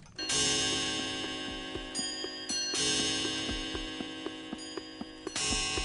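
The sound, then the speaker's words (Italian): A steady, regular clock tick repeats throughout, crisp, over a dense ringing, bell-like tonal wash that swells and briefly drops out in places. “Tutto sembra normale per il grande orologio di Tokyo. E così per tutti quanti gli altri.”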